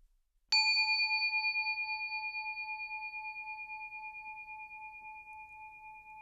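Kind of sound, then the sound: signal or alarm, meditation bell ringing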